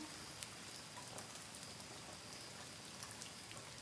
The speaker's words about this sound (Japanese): あとね、雨降ってきちゃったか。今日は晴れるって言ってたのにな。